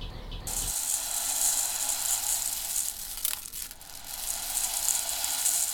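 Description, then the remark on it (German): Rice is poured slowly into a kitchen sieve to imitate the surf of waves on a sandy beach, making a steady, bright granular hiss that swells slightly midway. It continues for several seconds without talk. “Um die Wellen zu imitieren, schüttet ihr den Reis langsam in das Sieb.”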